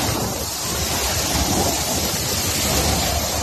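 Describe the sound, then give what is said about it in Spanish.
Howling wind and driving rain from Hurricane Ian passing over Cuba roar steadily without a break, a dense, loud wash of noise with heavy low rumbling gusts buffeting the microphone and no voices. “Así sonaba el viento y la lluvia a su paso por Cuba, donde ha dejado al menos dos muertos y una veintena de desaparecidos, además de muchos destrozos.”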